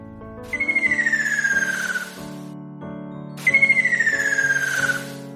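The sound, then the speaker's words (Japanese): A ruddy kingfisher calls twice at the top of a mountain path overlooking the sea, each a loud, rolling, high trill that slides steadily downward in pitch for about a second and a half, with soft music playing underneath. “健太、それはきっと赤ショウビンだよ。”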